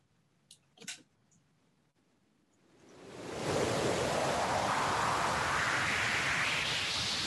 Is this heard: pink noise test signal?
yes